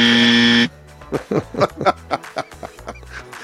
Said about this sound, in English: You're supposed to hit the buzzer right then